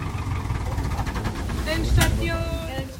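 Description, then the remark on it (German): A tractor engine runs steadily as the tractor drives through Laubenzedel back to a holiday farm, a loud, continuous low rumble with a rattling chug and some wind buffeting. It swells slightly toward the end. “Die Fahrt mit dem Traktor durch Laubenzedel, sie endet wieder am Ferienhof.”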